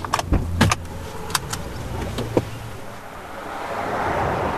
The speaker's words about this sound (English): As we hop in a car and travel from the 8 Mile's western branch to its eastern side,